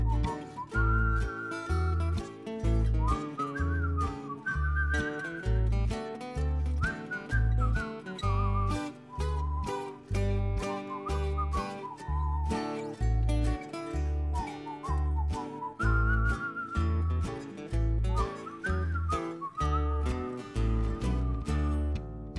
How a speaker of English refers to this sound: Everybody whistle. All across Austin, people are whistling.